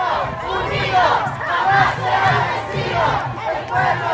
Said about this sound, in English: Cheering.